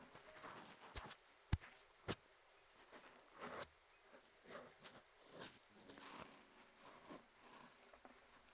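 Soft, steady rain with a hiss of scattered drops, plus a few sharper drips and taps landing at irregular moments. Quiet overall, with no voices.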